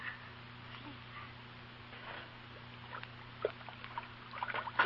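Soft, intermittent sloshing and light splashes of water being stirred in a pot, quiet at first and growing a little busier toward the end over a low steady hum.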